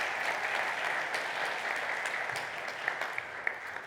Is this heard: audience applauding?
yes